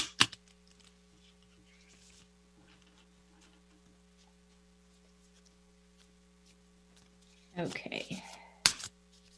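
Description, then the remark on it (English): Tarot cards being shuffled for a reading: a faint hum and quiet stretch, then a brief burst of papery rustling and a sharp snap of cards near the end, with no one talking. “So don't mind some shuffling noise here.”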